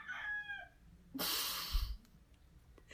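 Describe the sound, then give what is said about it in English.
A short rooster crow rings out, followed by a loud, breathy burst of noise, then quiet background. “Fucking rooster, man.”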